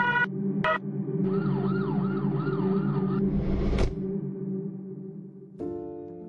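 An ambulance siren wails in repeated rising-and-falling sweeps over a loud engine rumble, with a rushing whoosh as the ambulance drives fast through the gate into a hospital yard and stops in front of the emergency department door, then the siren cuts out and the engine idles.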